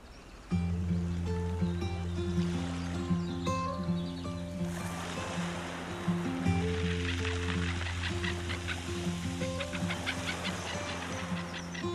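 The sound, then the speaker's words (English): A boat engine drones steadily, a low constant hum with water splashing and rushing against the hull, growing choppier toward the end. No one speaks. “Okay, we better leg it for the boat.”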